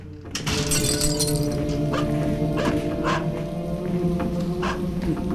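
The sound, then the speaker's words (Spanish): A watchman's dog, Rocky, barks repeatedly and loudly in an abandoned ruin, sharp yelps over a steady hum of background noise, with a brief crash near the start. “¿Quién va a venir aquí, a esta ruina abandonada, a molestar a un pobre vigilante y su perro cuando se está jugando la Copa del Rey, eh?”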